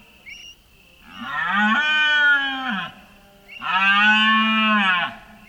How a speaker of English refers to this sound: It's the first adult male deer bellow in response to the beginning of females in heat. It's about to start one of the most amazing moments in nature, the deer bellow, meaning the end of the summer in Cabañeros Park.